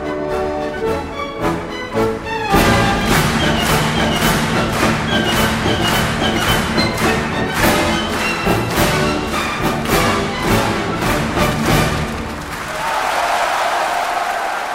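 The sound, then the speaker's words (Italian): An orchestra plays the Radetzky March while the audience claps along in a steady, loud beat, led by the conductor who has left the podium; the rhythmic clapping starts a few seconds in and stops near the end, leaving the music and crowd murmur. “Anche il direttore che per la marcia di Radetzky lascia il podio, si mischia al pubblico per dirigere quasi più che l'orchestra il battimani della platea.”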